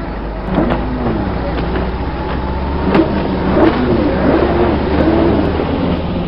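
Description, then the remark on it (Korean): The engine of Kim Jong-il's large jet ski, said to have strong engine performance, revs loudly and continuously, its droning pitch sweeping up and down as the throttle opens and eases, steady for several seconds. “언제 저렇게 큰 수상 오토바이로 바꾼 거야? 저런 오토바이는 엔진 성능도 좋아서 내가 아무리 용을 써도 이길 수가 없잖아.”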